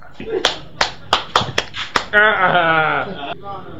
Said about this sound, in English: And I will clap for yourself. Clap!